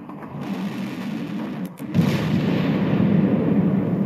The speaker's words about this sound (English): And suddenly, there was an explosion.